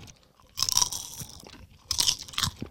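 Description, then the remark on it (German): Someone chews a crispy corn snack, with two bursts of crunchy, crackling bites separated by a brief pause. The crunching is moderately loud and there is no talking. “Wenn die etwas mehr knistern würden noch, dann wäre das eine echt coole Sache.”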